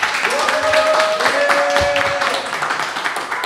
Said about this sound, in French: Nous sommes en direct de la maison de la Claire à Glézé avec un public nombreux. Est-ce que vous pouvez applaudir dans le public pour que les auditeurs vous entendent ?